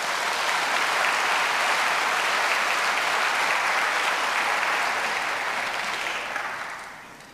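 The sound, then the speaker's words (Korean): An audience at Kyunghyang Presbyterian Church applauds in congratulation of 21 newly confirmed church members, a dense, steady wash of clapping that holds strong for about six seconds, then gradually thins and fades out at the end. No one speaks over it. “축하의 박수이시기 바랍니다.”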